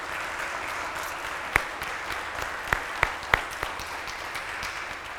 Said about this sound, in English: And so if you have an opportunity to see a deacon, just thank them. They have done a lot of excellent work. So I thank you all. We can applaud and thank them.